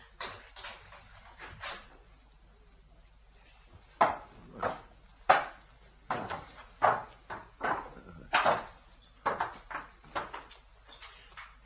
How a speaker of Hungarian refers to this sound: Na, itt a kulcs. Nyisd gyorsan ajtót. Na, végre!